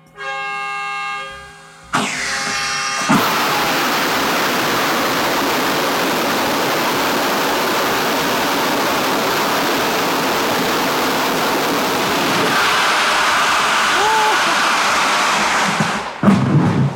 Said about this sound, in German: ich darf heute bei einem Raketentriebwerkstest dabei sein